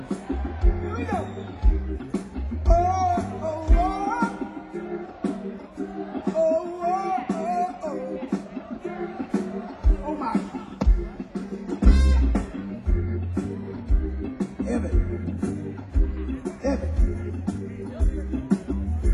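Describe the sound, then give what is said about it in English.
A crowd sings back in call-and-response, many voices carrying a melodic line over a loud, steady thumping bass beat, the sung phrases rising and falling in repeated waves. “Did you hear that crowd over there?”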